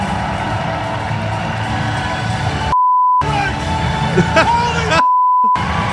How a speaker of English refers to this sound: I loved it. And more celebrations and more screaming.